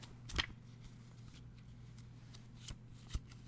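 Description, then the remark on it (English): Paper pages of a Yeti pamphlet, half of it in Spanish, being flipped: a few quick, crisp rustles spaced across a few seconds, heard alone over a steady low hum. “Now, the Yeti pamphlet. Is on a bit of a flip paper.”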